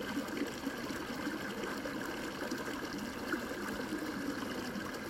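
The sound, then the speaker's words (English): Steady flowing water trickles and gurgles continuously, an even wash of sound like a small stream running over stones, with no voices. “See yourself in this water as purity, divinely created.”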